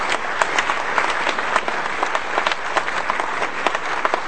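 An audience applauds steadily, many hands clapping in a dense, continuous patter with no voices standing out, holding an even loudness throughout.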